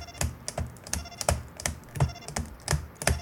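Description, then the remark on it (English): Rapid, uneven clacking of keys on a computer keyboard as a secret code is typed into a game, with about ten sharp strikes in quick succession and no talking. “Sounds like I'm walking on my keyboard and it's still not working.”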